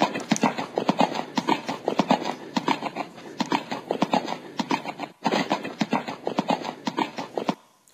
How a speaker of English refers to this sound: Here we are, horse, as we make our way from the farthest reaches of fair Canada to La Belle, Quebec, to find out who is spreading these ugly rumors about Harry and Meghan becoming their sovereigns.